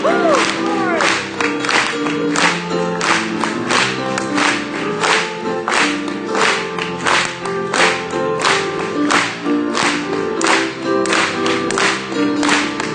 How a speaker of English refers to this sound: Just praising the Lord. Clap it to Him again.